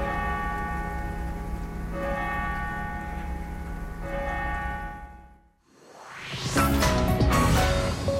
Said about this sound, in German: Die Kirche gleich neben seiner Wohnung stört ihn nicht. Im Gegenteil. Ich habe gerne am Sonntagmorgen, so zum Beispiel, wenn die Glocke läutet, höre ich, dann mache ich die Fenster groß auf.